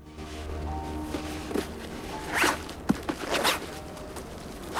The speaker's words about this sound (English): He hastily unwraps the cloth and ribbon to reveal a cool box. Puzzled, he unzips it.